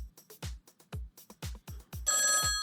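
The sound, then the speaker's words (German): A phone ringtone sounds fairly loud, signalling the first incoming call, starting as a quick series of rhythmic electronic beats and ending in a sustained, bright tonal ring. Nobody speaks. “Oh, ich sehe hier, wir haben hier den ersten Anruf.”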